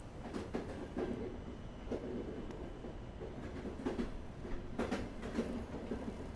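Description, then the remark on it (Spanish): A long passenger train of 7 passenger coaches and 8 closed vehicle-transport wagons, hauled by a Taurus locomotive, departs and rolls along steadily, its wheels clattering over rail joints in a rhythmic clickety-clack beneath a continuous low rumble, fairly loud, with no voices. “Con una locomotora Taurus a la cabeza, tal y como las que han remolcado mis dos últimos trenes del viaje, el largo convoy de 7 coches de pasajeros y 8 vagones cerrados para el transporte de los vehículos parte muy puntual”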